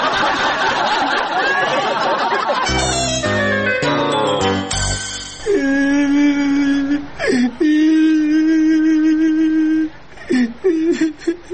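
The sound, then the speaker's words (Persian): A boy cries loudly in long, sustained wailing sobs with short breaks for breath, following a burst of busy background chatter and choppy noise. “او باچه جان چرا گریه میکنی ها؟”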